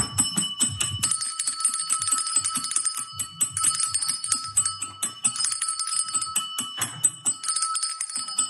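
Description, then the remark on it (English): A small hand bell inscribed "Ring for hugs" rings continuously and vigorously in a house on a Saturday morning, its bright metallic tone jangling in rapid, frantic shakes for several seconds, loud, with brief pauses between bursts. “In our house, we have a bell that you can ring that on the bell says, "Ring for hugs."”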